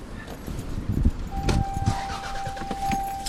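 A car drives through the worst-hit areas of Fraser with a steady low road rumble and scattered clicks and rattles; about halfway through, a thin sustained tone starts and holds to the end. No one speaks.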